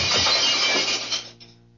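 A single loud crash of glass being broken with the butt of a gun, a harsh burst that scatters into rattling shards before quickly tapering off, with no voices.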